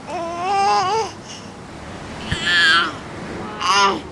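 A 7-month-old baby babbles in three short, sing-song bursts of wavering, high-pitched vocal sounds, with brief pauses and a faint low rumble between them, while trying to grab a microphone.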